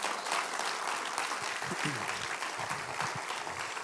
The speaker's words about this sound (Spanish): Podemos darle un aplauso a Dios por esta palabra.